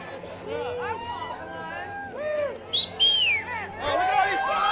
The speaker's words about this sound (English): The crowd is gathered here to make their first purchase of legal marijuana in the state of Oregon. They're all excited.